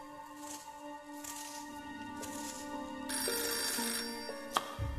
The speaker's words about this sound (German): Ich war gerade beim Kartoffelschälen. Da klingelte das Telefon.